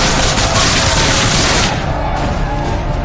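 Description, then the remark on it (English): A loud, dense battle din of cannon fire, rapid gunfire and booming blasts in the battle for Fort Washington, from the film Mountain Man 7: Blackfoot Messiah, continuous. The crackling high end thins out partway through while heavy low rumbles keep pounding. “Get my cannon moving! Fire! Shoot them all!”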